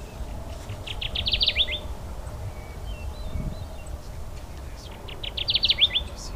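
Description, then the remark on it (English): A male Kirtland's warbler, partially concealed in the pines, sings two loud, bright songs, each a quick run of chattering notes that rises and ends abruptly, with a pause of several seconds between them over a low background rumble. “The Kirtland's warbler is a species on its way back up.”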